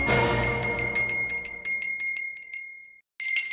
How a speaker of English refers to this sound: All over the United States of America, wake up, wake up. That is a call to action. That bell is the golden bell of liberty, calling you to wake up wherever you are.